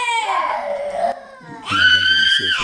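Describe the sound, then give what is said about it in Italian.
A baby cries loudly during an Italian-language sermon in two strained, wailing bursts separated by a brief catch of breath, the second cry higher and more piercing. “E se leggete il libro tornate indietro nel capitolo 18 nel libro degli Atti, c'è un bambino che piange.”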